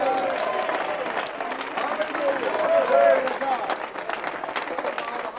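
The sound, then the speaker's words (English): An audience applauds steadily for several seconds, dense overlapping claps forming a loud, continuous roar with murmuring voices and occasional raised cheers mixed in. “Now, go ahead and applaud right now.”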